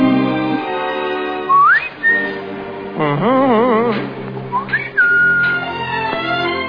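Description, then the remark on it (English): A person whistles a lilting tune with rising slides and a wavering, vibrato-laden passage in the middle, over a steady sustained musical backing. No one speaks. “I whistle and hum, but I hum to whom?”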